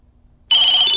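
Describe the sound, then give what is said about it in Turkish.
A loud telephone ring at 12:27 at night bursts in abruptly halfway through after near silence, a bright, steady electronic trill with a sustained high tone, alone with no talking. “Çalan telefonun yanındaki saat gece 12.27'yi gösteriyor.”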